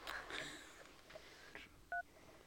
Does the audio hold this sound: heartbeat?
no